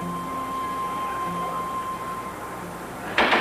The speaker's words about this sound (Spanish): Ambos se incorporan y armados corren hacia la puerta. ¡Ernesto! Nereida abre la puerta. Ernesto entra y ambos abrazan.